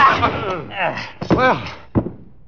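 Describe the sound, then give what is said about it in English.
Heavy thwacking blows from a chair land on a man amid strained grunts and groans, with a sharp hit, a second quick strike, then one last loud thunk before it goes quiet. “You were very handy with that chair. How come you hit him?”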